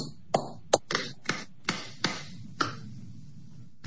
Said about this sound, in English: Counsel, before you start, let's try something. Raise your hands and clap.